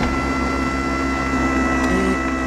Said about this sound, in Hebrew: סליחה, מה זה? זו דלת חשמלית, והיא נפתחת רק על פי קוד סודי שהשוטרים יודעים.